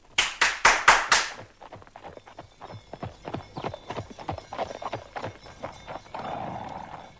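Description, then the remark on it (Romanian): Horse hooves clip-clop in a steady rhythm, starting with a few loud strikes and continuing as quicker, softer clopping, like a carriage drawing up, with no voices. A horse pulling a small new carriage made of gold. “Vă mulțumesc, însă eu doresc numai o trăsurică, un cal și o pereche de pantofi, pentru că vreau să plec iar în lume și să-l caut pe Chei.”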